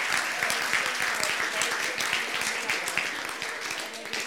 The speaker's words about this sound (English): Like, can we give God some applause for... That's amazing.